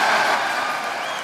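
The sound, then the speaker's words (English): Dense, steady applause in the House of Representatives chamber as Kevin McCarthy is announced as elected Speaker, with nearly all the Republicans clapping, a continuous wash of many hands at an even, fairly loud level with no voices standing out. “Now, there was a lot more applause there, and if you watched the video and saw that, when the vote count for Kevin McCarthy was given, pretty much all of the Republicans were clapping and cheering and many of them on their feet and all that,”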